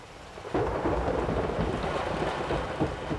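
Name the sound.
heavy rain with thunder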